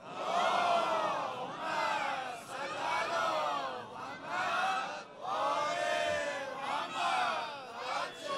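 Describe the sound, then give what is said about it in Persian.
A large crowd chants salawat in loud unison, voices rising and falling in repeated sweeping phrases with short breaths between them, sustained throughout. “اون صلوات بلنده رو کی میفرسته؟”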